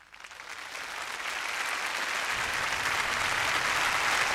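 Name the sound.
concert audience applause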